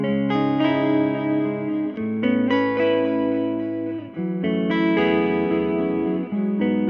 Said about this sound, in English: It's a really simple technique. We can achieve that with the gain plugin in Logic, but your DAW will have its own variation. And we just click swap left and right. The gain plugin is placed before the echo. And this is the effect.